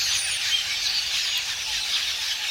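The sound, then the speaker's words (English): A vast flock of red-billed quelea calling together, a steady, dense wash of high chattering and twittering that merges into a hissing roar, with no voices present. “But setting aside their taste for crops, the sight of a couple million red-billed quelea swirling in unison and creating ever-changing patterns in the air is one of nature's most amazing spectacles.”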